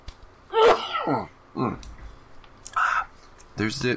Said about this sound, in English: Okay, give me a minute to clear my throat and get a cough drop.